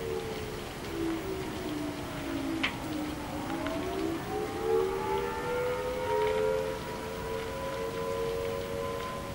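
Tornado sirens wail steadily, their long tones dipping and then rising again, layered over a constant hiss of rain. No one speaks.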